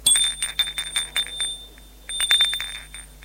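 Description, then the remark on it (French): A bright electric doorbell, rung by a man at a door on a stair landing, rings in two rapid trilling bursts, a long one and then a shorter one after a brief pause, loud with no voices. “Il est arrivé au palier. Il va sonner.”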